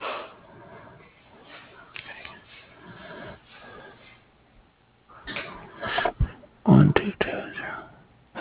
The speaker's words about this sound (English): Excuse me. No, take your time. It's all good. You're allowed to cough.